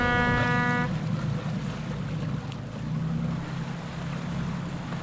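A boat leaving the dock, its engine rumbling steadily amid wind and water noise, opening with a brief tonal horn-like blast that fades after about a second, and no one speaks.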